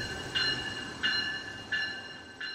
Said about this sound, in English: Electric South Chicago train number 318.